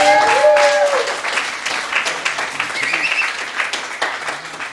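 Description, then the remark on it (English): An audience at a meeting applauds the evening's speaker, a dense crackle of many hands clapping at once, with a brief tonal whistle or cheer at the start before the clapping carries on evenly. “All right, let's give John another round of applause.”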